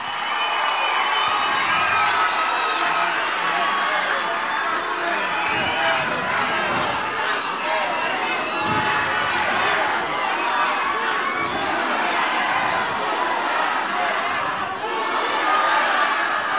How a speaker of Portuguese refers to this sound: Queria pedir uma salva de palmas ao maior e melhor presidente da história desse país, Luiz Inácio Lula da Silva.